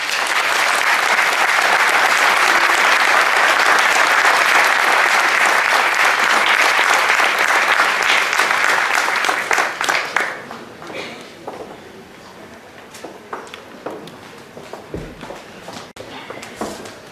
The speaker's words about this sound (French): Je vous demande de faire un tonnerre d'applaudissements pour l'ancien président de MZ, de Méfilé Zénob